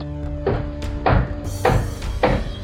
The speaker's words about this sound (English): Hold on while the monorail stops. All right, let's unbuckle and move to the control room.